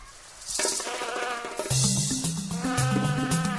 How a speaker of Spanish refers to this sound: Ahí está, el mosquito.